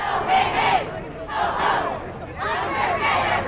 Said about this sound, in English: With a crowd chanting that unfair pay has got to go, the protagonist in the Walmart suit gathered on the steps of the high court today,